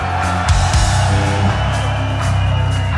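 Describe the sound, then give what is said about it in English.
A large concert crowd in Freiburg roars continuously with mixed yells and whoops, a dense sustained wash of cheering at steady loudness with occasional sharper shouts poking through. “Ah, that's what I love to hear.”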